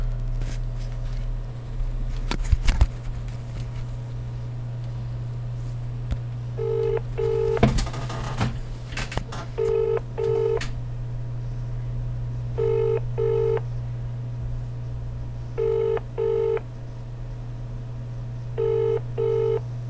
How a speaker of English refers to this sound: I'm about to phone